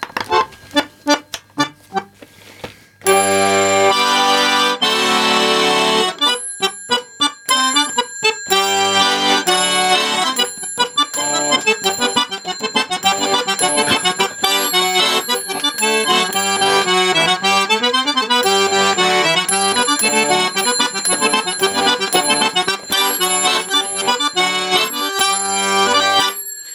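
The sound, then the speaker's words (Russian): A few light bell taps, then a Saratov accordion breaks into a lively, loud tune, its small bells, struck by two special buttons on the left half of the body, jingling steadily over the reedy chords throughout. “Но эти кнопочки не только ударяют колокольчик сам, но и издают, безусловно, звук.”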